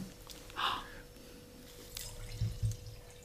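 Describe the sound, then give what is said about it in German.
Schildschar wine being poured into a glass, heard as a few short, quiet liquid splashes and drips, with soft low clunks near the end against a faint hum. “Hören Sie es? Das ist mein erstes Glas Schildschar, das ich hier bekomme.”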